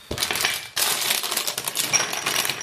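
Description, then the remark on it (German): Whole, unroasted Californian almonds pour into a bag with a dense, continuous rattling crackle of many small hard clicks, briefly pausing after a moment before the pouring resumes just as busily. No one speaks. “Aber das knistert jetzt schön, ne?”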